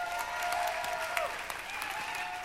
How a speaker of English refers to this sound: And listen, so can we just give Cameron like a huge hand clap and thank you?